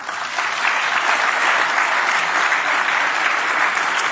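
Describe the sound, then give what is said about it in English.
A crowd claps steadily for several seconds to welcome speakers at a morning presentation on retirement, a dense, even wash of applause with no voices breaking through, holding a constant level from start to finish. “Please make all of our speakers welcome this morning.”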